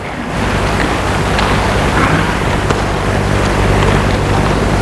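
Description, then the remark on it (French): A loud, steady engine rumble with a deep droning hum, wrapped in a broad rushing wash like wind or water, heard at night in a nearly deserted town street in mild weather, holding at much the same level throughout with no voices. “il entend comme un bruit, un ronflement de moteur et qui grandit petit à petit.”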